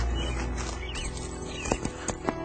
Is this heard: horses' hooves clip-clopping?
yes